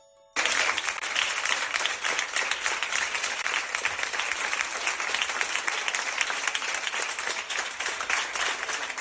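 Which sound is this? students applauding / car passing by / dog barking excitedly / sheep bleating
students applauding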